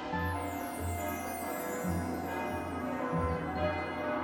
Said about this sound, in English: There is the monumentous sound of giant bells ringing. This is the bell at the tower of Barnhart Swan's School of Magic Fighting and Dance, which is found in Kingstown, a few days' journey from Wintersmith.